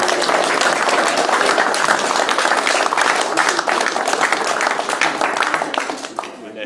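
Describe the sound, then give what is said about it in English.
An audience gives another round of applause to someone being congratulated, before a photo, with dense, steady clapping that holds loud for several seconds, then thins and fades slightly toward the end, with a murmur of voices mixed in. “Another round of applause, and then we'll get a photo.”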